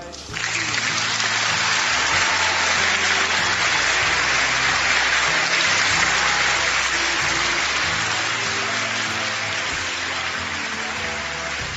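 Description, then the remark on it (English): A large audience applauds steadily for about twelve seconds, a dense, loud wash of clapping that holds even throughout, with faint low tones murmuring underneath. “I deleted quite a lot of dramatic silences and some spontaneous applause from that, just in order to squeeze it all into the time slot available.”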